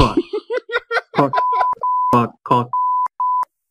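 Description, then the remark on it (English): A steady electronic censor bleep sounds several times in quick succession, each flat tone cutting over and interrupting bursts of speech. “See, now we're going to get one that's bleeped and one that's not.”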